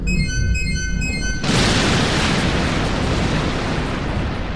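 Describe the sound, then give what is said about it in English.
A few thin, high electronic tones give way to a sudden, loud explosion as a creature blasts a hole through a wall to run away, followed by a sustained roaring rumble of debris that slowly fades. “Well, no, and he's just blasted himself a hole in the wall to run away through.”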